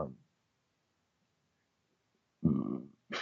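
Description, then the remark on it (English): After a stretch of near silence, a loud burp, following a dinner of Buffy chicky dip, rumbles out for about half a second, followed by the start of another sound right at the end. “I got the burps.”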